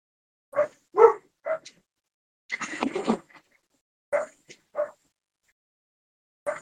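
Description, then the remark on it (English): A dog named Otto barks in short, sharp bursts during a bad storm, with a scuffling, whiny stretch in the middle, then a few more spaced barks and whimpering yips, clear with no talking. “Your dog wants to say something”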